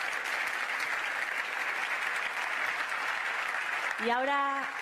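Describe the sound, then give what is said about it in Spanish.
An audience claps steadily for award winners, a dense, even wash of applause holding at the same level for several seconds before a voice starts speaking over it near the end. “Un fuerte aplauso para todos los premiados.”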